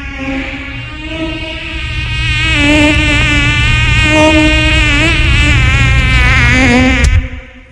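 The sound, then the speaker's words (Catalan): A loud mosquito buzz whines steadily for about seven seconds, swelling at first and wavering slightly in pitch, then cuts off abruptly. “No tot el que vola són mosquits.”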